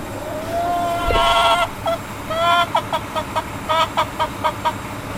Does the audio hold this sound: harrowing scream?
no